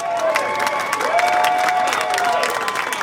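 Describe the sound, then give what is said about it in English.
Steady applause from a large crowd of service members and staff lined up at the Pentagon for the traditional send-off ceremony of a departing military chief on his last day, with dense clapping carrying on throughout, scattered cheers and a few whistles rising above it. “We in fact spoke to him just an hour or so before he was clapped out of the Pentagon here.”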